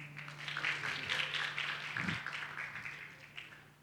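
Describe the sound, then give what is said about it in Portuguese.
A round of applause in thanks from a group, a dense, steady patter of many hands clapping for about four seconds, with a faint low hum beneath it. “Uma salva de palmas aí, ó.”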